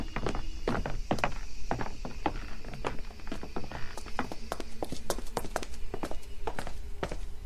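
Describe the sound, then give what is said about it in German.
Several people's footsteps clatter down a set of cellar stairs, a quick uneven series of hard thuds and knocks with no talking. “Sie gingen Richtung Kellertreppe.”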